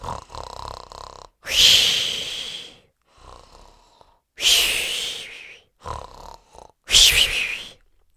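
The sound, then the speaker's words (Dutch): Three loud, rhythmic snores, each a rumbling intake followed by a long breathy exhale, without talk. It sounds like a person imitating snoring. “Toen de boswachter naar huis wandelde, hoorde hij luid gesnurk.”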